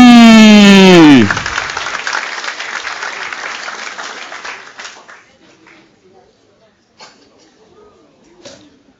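A studio audience breaks into warm applause right after a short descending musical sweep, the clapping loud at first, then gradually fading over several seconds, leaving a few faint sounds.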